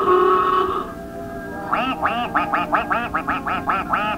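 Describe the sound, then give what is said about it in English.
Ducks on a pond quack in a quick, steady run of about ten nasal calls, fairly loud, following a brief sustained tonal sound at the start. “A lot of ducks out on the pond.”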